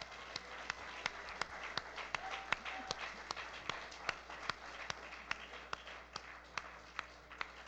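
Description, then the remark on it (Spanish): A crowd applauds, giving sharp, scattered claps over a steady hiss of many hands, holding at an even level for several seconds with no one speaking. “Y me gustaría que les diéramos un aplauso.”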